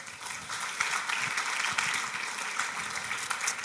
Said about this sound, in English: Thank you. Please give them a clap.